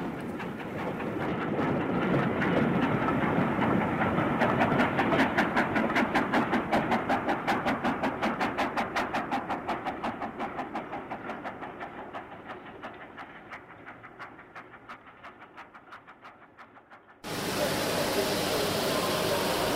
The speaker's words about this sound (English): Now, if you were a boy in the 1950s, chances are you probably got a Hornby train set for Christmas, just like this one coming by.